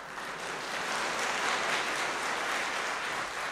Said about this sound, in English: Steps out, waits for audience applause.